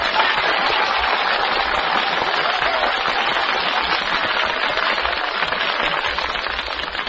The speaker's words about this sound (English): Please do not whistle or shout. Simply applaud. There's the applause indicator over the throne, and here we go in the order that came to the microphone. Your applause only for number 2, Mrs. Verdna Hansen, number 2.